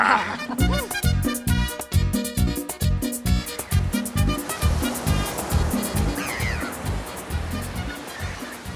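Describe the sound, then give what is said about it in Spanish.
Ocean waves roll onto a shore in a steady rushing wash, swelling and receding in a rhythmic pulse, with no voices present. “No solo con el agua, sino que sentía el balanceo de las olas, el aroma del agua marina, los gritos de la gente, el graznido de las aves, la temperatura del agua.”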